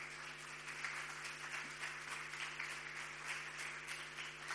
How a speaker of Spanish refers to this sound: Un aplauso muy fuerte para él.